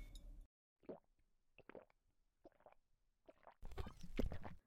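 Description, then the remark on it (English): A crisp crack and hiss of a beer being opened, followed by several separate gulping swallows and a final burst of fizzing, with no talking. “I gotta relax. I'm gonna have a beer. Do you want one? So, cheers to a new phase in our friendship.”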